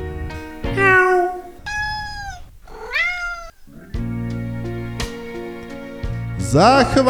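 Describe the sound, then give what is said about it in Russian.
A kitten mews pitifully several times in a yard, thin rising-and-falling cries, with a low steady hum underneath and a final sharper, higher wail at the end. “только слышу со двора жалкий писк котенка.”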